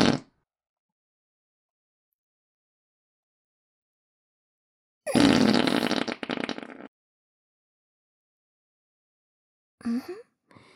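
A long, loud, sputtering fart lasting about two seconds, bracketed by a brief blip at the start and a shorter squeaky toot near the end, with silence between, let out during a prayer.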